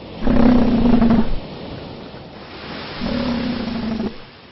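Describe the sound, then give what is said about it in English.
Elephant seals, arriving in August on Macquarie Island in the Pacific after months at sea, bellow twice, each a deep, throaty, droning roar lasting about a second, separated by a short pause. The calls are loud over a low wash of background noise. “In August, after months at sea, elephant seals arrive.”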